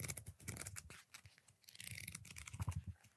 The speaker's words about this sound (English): Let me see if I can touch people's ears with the pages of Single Track then.